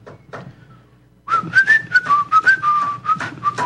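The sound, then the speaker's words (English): After a quiet second, someone whistles a wavering melody, clear and fairly loud, with rhythmic percussive sounds pulsing underneath until the end. “I used to whistle that.”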